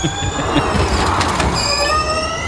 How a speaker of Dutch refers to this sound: Ja, maar dit zo klinkt weer een... Dit zo klinkt een trein.